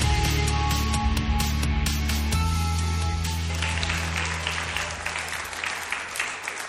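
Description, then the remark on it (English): Sustained applause from an audience at a Belfast City Vineyard Sunday church service, a dense wash of clapping with a low steady hum underneath, gradually thinning and fading over several seconds. “Well, you wouldn't be clapping if you knew what I was about to talk about.”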